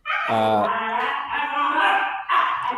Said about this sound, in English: dogs are whining